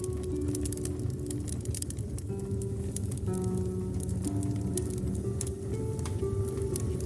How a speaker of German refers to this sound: Du legst dich bäuchlings hinein und spürst sofort die angenehme Wärme des Feuers. Wie gut das duftet und wie schön das knistert.